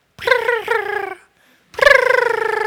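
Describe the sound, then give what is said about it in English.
A person imitates a dove's late-morning song: two warbling, tremulous cooing phrases separated by a short pause, the second held steadily, with no words spoken. “Last of all, after the doves' little bellies were full, it was time to fly up to their perch and sing the late morning songs of the dove, right?”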